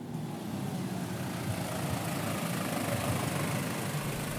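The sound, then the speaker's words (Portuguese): An agricultural tractor engine idles at an awareness event on the use of agricultural tractors, with a steady, low, rumbling drone that holds an even loudness throughout, with no voices or other sounds. “Olha, nós estamos cá no âmbito de uma ação de sensibilização sobre o uso dos tratores agrícolas.”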